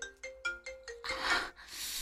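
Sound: phone ringtone ringing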